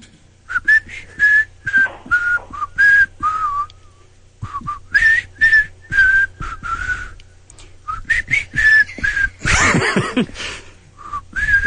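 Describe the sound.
A person blow-hums a song, making breathy whistle-like tones in a choppy, rhythmic melody of short repeated notes, loud and alone, with a brief pause near the middle and a burst of noisy air near the end.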